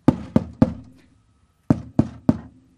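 Knocking on a door in a role-play demonstration of visiting someone's home: two sets of three firm, evenly spaced raps, separated by a short pause. Each knock is sharp, with a brief resonant thud.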